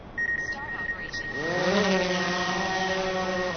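A small drone, launched from a miniature helipad at the edge of a glacial flood basin, whirs to life, its buzzing motor whine sweeping upward in pitch and then holding a steady, droning hum as it flies back and forth taking aerial photos, with a thin high tone ringing faintly throughout.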